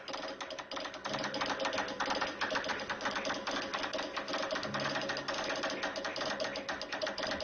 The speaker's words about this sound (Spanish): Lo voy a dejar con estas imágenes de un hombre, mire, domina perfectamente el arte de enviar mensajes en clave Morse. Y sí, es tal su dominio que lo hace casi, casi con los ojos cerrados. Miren nada más qué habilidad.